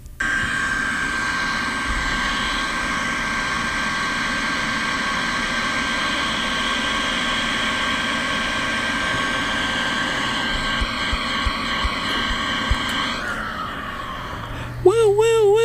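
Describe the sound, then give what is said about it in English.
A hand dryer roars steadily for about thirteen seconds, a loud airy whoosh with a high, even whine, then spins down as a voice briefly speaks. “That's the hand dryer theme song.”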